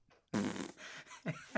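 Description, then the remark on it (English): A loud, brassy fart sound effect, played by hitting the fart button on a sampler, erupts after a brief quiet moment, sputtering for over a second with a wobbling, buzzy tone and a final short burst. “And then you gotta hit the fart button from the sample.”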